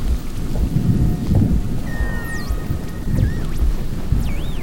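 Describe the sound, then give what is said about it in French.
A thunderstorm over the heights of Moissac, heard while driving: heavy rain roars steadily while deep thunder rumbles loudly throughout, with the faint high warbling tones of a siren going off and sweeping up and down in the background. “Les branches brillent dans la tempête, une sirène se déclenche.”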